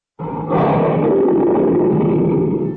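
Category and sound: animal, tiger roar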